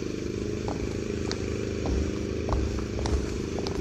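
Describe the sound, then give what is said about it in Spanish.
A lawnmower engine drones steadily with a low, buzzing rumble, with faint clicks and rattles scattered over the constant hum and no voices. “Además del ruido de la podadora”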